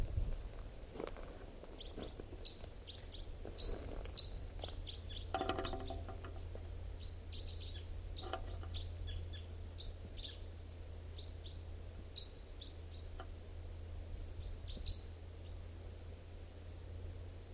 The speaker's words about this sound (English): Birds here. Well, can't tell who's who. Stop. This is one of the birds. And it just joined its mate. And they're just perched up in this tall Douglas fir above the net area.